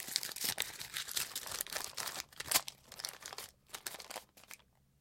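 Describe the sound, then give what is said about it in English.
A folded slip of paper bearing a name, picked from a hat, is unfolded, with dense crinkling and crackling rustles for several seconds that grow sparser and fade out at the end. “They picked out one paper, opened it up.”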